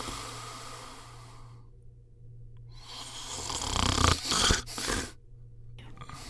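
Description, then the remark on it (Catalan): A giant taking a nap snores loudly and deeply: a long rasping breath, a quiet pause, then a heavier, rattling snore that peaks and trails off, all over a low steady hum. “Algú està dormint. Sí, semblen roncs.”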